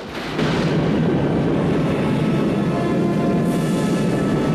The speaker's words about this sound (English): As the pod slowly lowers itself towards the ground and fires up its thrusters, the two astronauts continue to watch it.